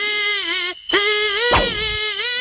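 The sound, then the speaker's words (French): A loud mosquito-like buzz drones at a steady high pitch with a slight waver, cutting out briefly once before resuming, with a short rough burst partway through. “C'est un moustique qui fait la gueule tout le temps, lui.”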